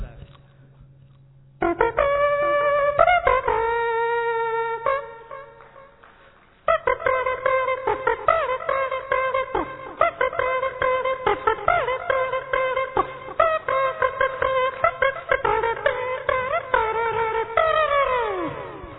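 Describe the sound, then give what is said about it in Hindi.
A loud wedding brass band (band baja) plays for a wedding procession, blaring sustained horn melodies over steady percussive beats, pausing briefly partway through before starting up again and carrying on to the end. “फिर बैंड बाजा बजता है।”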